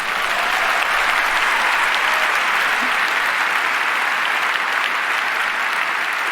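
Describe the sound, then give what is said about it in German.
A crowd applauds steadily for several seconds, a dense, even wash of clapping hands that stays loud throughout with no voices on top. “Aber ganz ehrlich, das könnte jetzt mal ein Applaus für die Bahn wert sein, weil das ist sportlich.”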